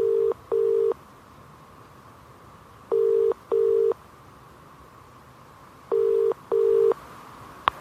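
A mobile phone call's ringing tone, from police calling a missing woman's phone with no reply, sounds three times, each a clear double burst, in an even rhythm about three seconds apart over a faint hiss. There are no voices.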